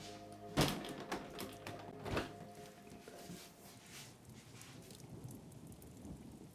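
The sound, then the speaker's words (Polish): Steady rain patters outside, heard through an open window, with a couple of sharper thuds or knocks early on standing out over the continuous wash of falling water; the rain has been falling since morning, with some wind and cool weather. “Pada deszcz. Pada od rana i ciągle nie przestaje.”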